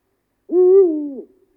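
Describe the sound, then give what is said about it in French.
A single deep, muffled hoot of an eagle-owl (grand-duc) lasting under a second, steady and low-pitched with a slight fall at the end, heard alone against silence. “Il attend 5 à 10 secondes entre ses « ouh » et sa voix grave, un peu sourde, porte à plusieurs kilomètres.”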